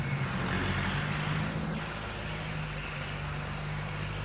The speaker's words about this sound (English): It's a high lift tractor operating over there in the building site.